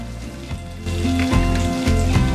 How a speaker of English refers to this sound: He begins to jog away through the pouring rain.